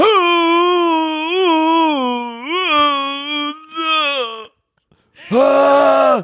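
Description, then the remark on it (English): A voice imitates a person's long, wavering, deep guttural moan on waking in the morning; it swells and dips for about four seconds, breaks off into a brief silence, then returns with a short, loud, strained burst. “It starts off like a silent scream every morning, and then it slowly becomes like that, just like deep guttural moan.”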